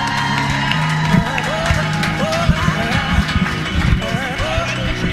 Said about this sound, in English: Guys, unbelievable round of applause. Awesome.